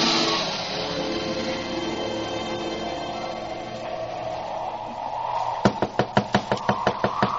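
knocking on a door

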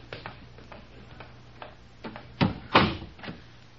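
door being closed

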